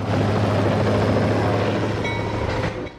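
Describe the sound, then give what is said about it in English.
Helicopter rotor blades spinning up as the helicopter prepares for takeoff at night, a loud, steady throbbing drone with a low engine hum that holds constant throughout. “Rotor blades spin as the chopper prepares for takeoff.”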